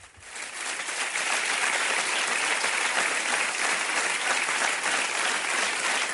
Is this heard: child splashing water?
no